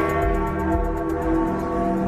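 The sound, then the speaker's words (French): Church bells at the Vatican peal continuously on Christmas Day, their overlapping strokes blending into a dense, ringing wash of tones that holds steady throughout, with no voices present. “Vous entendez les cloches qui sonnent au Vatican en ce jour de Noël.”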